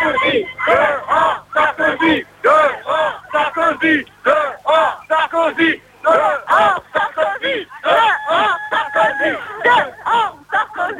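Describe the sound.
A crowd of protesters at a street demonstration at Place de la République in France chants in unison against Sarkozy, loud rhythmic bursts of shouted syllables repeating steadily with brief gaps between phrases, many voices blending into one forceful cry.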